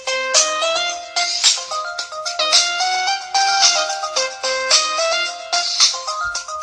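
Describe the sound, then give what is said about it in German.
A bright electronic ringtone melody plays on its own, quick stepping beeps in a repeating tune that loops steadily at a fairly loud level. “Okay, ja, das Telefon klingelt nicht.”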